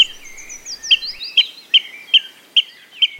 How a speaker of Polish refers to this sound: Szybko okazuje się, że to wodnik.